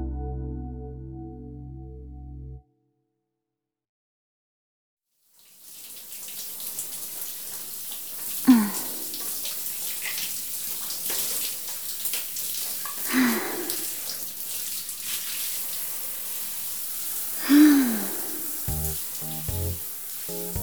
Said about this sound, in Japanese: やっぱり部活の後のシャワーは気持ちいいわね。プールの水と一緒に疲れも流されていくみたいで